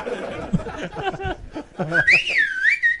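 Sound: person whistling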